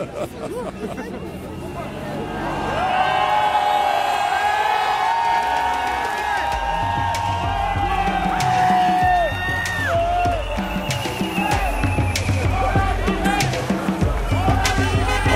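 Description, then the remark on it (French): A large crowd awaiting an announcement at 8 o'clock roars and cheers without pause, a dense wall of voices with shouts and long whoops rising above the steady din, loud from start to finish. “C'est extraordinaire, cette foule.”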